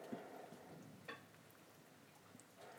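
Soft, steady patter of rainwater dripping from trees after the rain has stopped, a diffuse rain-like hiss with a few sharper drops landing. Quiet overall, with no voices.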